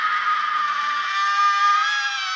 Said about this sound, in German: Seine Lautstärke variiert also 30 bis 150 Mal pro Sekunde. Das menschliche Gehör ist bei hohen Modulationsfrequenzen nicht mehr in der Lage, die Veränderungen in der Lautstärke deutlich zu unterscheiden. Es klingt eben wie ein Schrei.